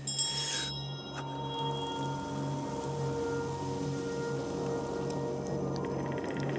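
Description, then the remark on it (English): A bell, called a knell, is struck once with a bright clang, then its deep, humming tone rings on steadily, sustaining without fading for several seconds. No voices are heard. “The bell invites me. Hear it not, Duncan, for it is a knell that summons thee to heaven or to hell.”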